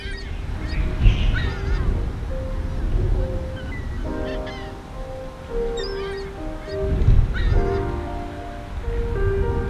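Birds call repeatedly throughout, with harsh, honking cries over a steady low roar of ocean waves and wind; no one speaks.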